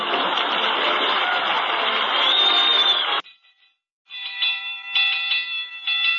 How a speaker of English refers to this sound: That alarm is still ringing. Answer the phone. Hurry up.